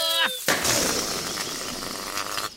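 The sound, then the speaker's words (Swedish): A brief squeaky, falling tone gives way to a sharp, loud burst of a balloon used for playing balloon football, followed by a steady rough, rushing noise that carries on for about two seconds. “Oj, ballongen sprack på dagarna.”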